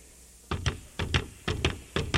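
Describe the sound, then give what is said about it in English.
Footsteps of a conductor walking into the orchestra pit before an opera overture, eight solid thudding steps falling in quick pairs with a steady, slightly uneven rhythm, moderately loud over a faint background hiss with no talking. “Now you hear the conductor's footsteps when he enters the orchestra pit.”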